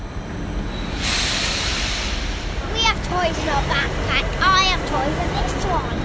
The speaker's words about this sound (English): an electric blue train screeches to a halt in front of them in Vienna's main train station. The family is waiting to board a night train to Düsseldorf, Germany.